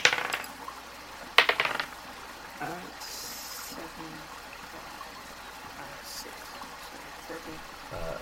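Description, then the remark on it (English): A steady, low rush of flowing water runs throughout, broken early by two sharp metallic clinks and a few brief hissy bursts, with faint murmuring voices beneath. “It sounds like there's flowing water behind you.”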